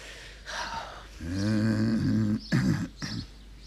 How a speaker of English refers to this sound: The soft, low, gentle cough, like a sheep with a blade of grass caught in its throat.